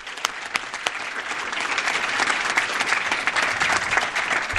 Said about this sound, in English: Can we please give her a round of applause?